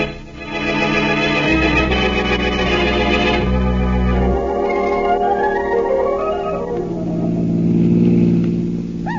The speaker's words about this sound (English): Nice afternoon for a ride, isn't it, Blackie? Yes, in a car. I guess it finally has replaced the horse at that.